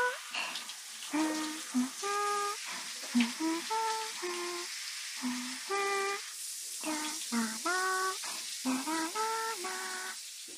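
A steady, bright hiss of shower water spraying runs throughout, with a voice speaking in short, melodic phrases over the rushing water.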